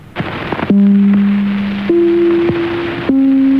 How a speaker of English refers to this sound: The NBC chimes as they sounded in the early 30s.